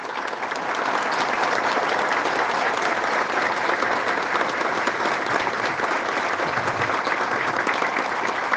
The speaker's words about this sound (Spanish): quiero que se levanten las guerreras de nuestro departamento. Fuerte aplauso para ustedes.